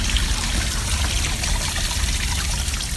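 Water trickles steadily from a small garden water feature with a Buddha in a small green garden in San Francisco, a continuous splashing babble with no pauses and no voices, running evenly throughout.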